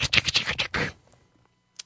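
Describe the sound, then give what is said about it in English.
A rapid flurry of crisp keyboard clicks and clacks for about a second, then quiet, with one last faint tap near the end: a woman typing on a keyboard while lying on her side on a bed. “Behind seven windows, there's a fucking a full motion cam of some fucking used up whore just typing on a keyboard, laying like just on her side on some dingy bed, just.”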